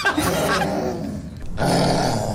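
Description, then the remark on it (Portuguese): A young girl in a viral TikTok video lets out a harsh, guttural roar from her throat, a loud raspy growl that sustains, briefly eases, then surges again in a second long burst. “como se fosse umas garras, não é? E sai isto da garganta.”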